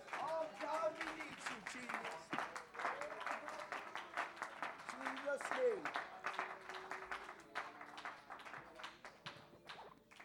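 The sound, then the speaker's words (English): A church audience at New Life Tabernacle claps hands steadily for the whole stretch, loud sharp claps in a fairly regular rhythm, while raised voices call out over the clapping. “Jesus, clap your hands right now.”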